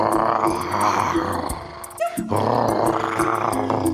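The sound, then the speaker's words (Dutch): A child's voice roars like a tiger, loud and gravelly, in two long growling bursts separated by a brief pause, with rhythmic background music running underneath. “Je snuit brult.”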